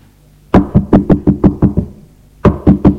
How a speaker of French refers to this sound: On a frappé à la porte. Il a sursauté.